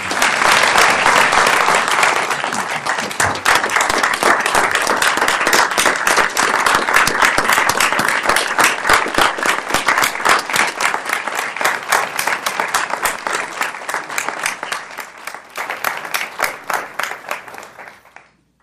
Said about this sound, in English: Charles, this is the proclamation that I want to give to you. And could we join in giving Mr. Ford our approval and appreciation through applause?